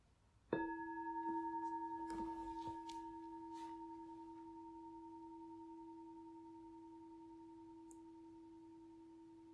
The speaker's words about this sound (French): Et au prochain son de cloche, nous allons nous lever.